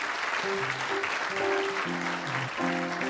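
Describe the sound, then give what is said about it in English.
Dense, steady applause from an audience fills the whole clip, a loud wash of many hands clapping, with some brief tonal voices or whoops rising above it. “Well, thanks for the applause”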